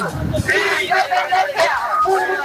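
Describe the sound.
A crowd of regular protesters, onlookers and many media people shouts in the street, many voices overlapping into a loud, steady hubbub with raised, strained cries rising above the babble.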